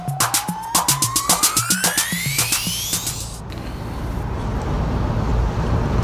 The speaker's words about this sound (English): Sorry, a bit loud. I'm on the bus. We're on the bus, I should say, heading to North Berwick